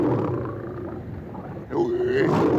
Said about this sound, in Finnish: Numa, kuinka? Numa. Leijonan karjahdus. Numa. Numa. Vastaa sinä sille, Akut. Taidatte ymmärtää toisianne, sinä ja leijona.